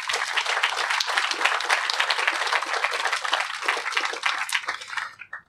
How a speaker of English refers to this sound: But a round of applause for our panel, please.